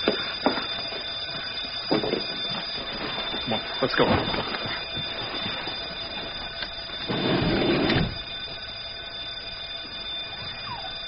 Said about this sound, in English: What is that? Fire alarm?